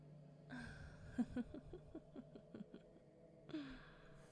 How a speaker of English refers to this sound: Moist, squishing sounds follow her giggle, and you know, she's right behind you.